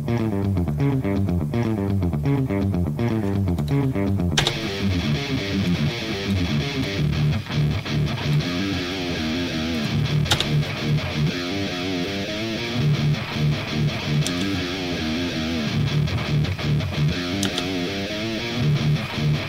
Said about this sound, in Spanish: Va, entonces le voy a poner play nada más con el ampli. Luego voy a poner el pedal de distorsión. Ok. Y luego pongo el overdrive, ¿no?